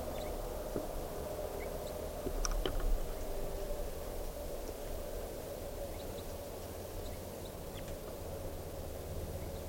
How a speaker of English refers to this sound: So recording a hair chitter of crossbills up in the trees right above me.